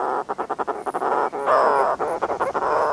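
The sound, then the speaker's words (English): A dense chorus of broad-billed prion calls, harsh throaty yelps and chattering notes overlapping in quick rhythmic bursts, fairly loud, with no talking, as the seabirds fly near the water's surface dipping their bills into the water. “These broad-billed prions fly near the surface, dipping their bills into the water.”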